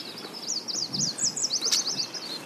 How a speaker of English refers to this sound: We set off at first light, paddling with the current down the Missisquoi River. And almost at once, we're in a different world. It's not like there's a bird song here and a bird song there. It's just this kind of wash of sound.